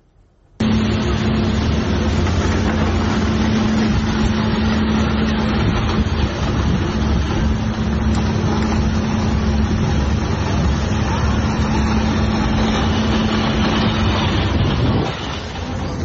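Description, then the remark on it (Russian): A night-time Kalibr missile strike on a retail chain's warehouse, launched from the Black Sea, caught on a security camera: a sudden loud burst gives way to a heavy, sustained roar with a steady low hum underneath, lasting about fourteen seconds before dropping off. No one speaks. “Камера видеонаблюдения записала звук прилета этой ночью.”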